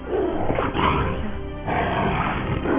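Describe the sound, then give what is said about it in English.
A big cat lets out a loud, rough roar that rumbles on for nearly three seconds, with a brief dip midway before the growling surges again. No one speaks. “Control that cat if you know what's good for you.”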